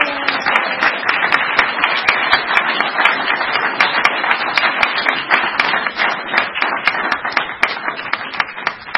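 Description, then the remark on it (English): A group of people at an alcoholics' recovery meeting clapping steadily for a member receiving a white chip, many overlapping hand claps forming a loud, dense burst of applause that holds throughout without fading. “That feels good, all the clapping.”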